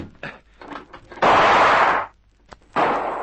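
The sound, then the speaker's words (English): A loud gunshot bursts through a window in a harsh, noisy crack that lingers for nearly a second, followed shortly by a second sharp blast, with faint clatter before them. “That shot came through.”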